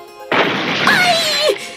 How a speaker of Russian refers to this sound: Но камень со свистом упал обратно и стукнул Дырку в самую макушку.